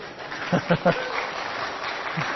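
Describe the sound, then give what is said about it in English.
An audience claps in a steady, moderate wash of applause, with a few short voiced shouts or laughs rising over it near the start. “Some of you maybe shouldn't have clapped because you might not have read what my answer was to the search committee.”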